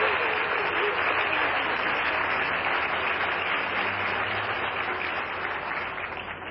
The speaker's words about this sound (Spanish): Les pido a todos que desde aquí les demos un aplauso a todas las mamás y a todos los papás de México.